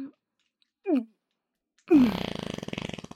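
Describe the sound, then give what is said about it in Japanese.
A short low blip, then a longer, fairly loud fart from a woman playing a nun (sister) that starts with a rising tone and breaks into a rapid buzzy sputter before trailing off. “ほら、臭い臭いおならだぞ。”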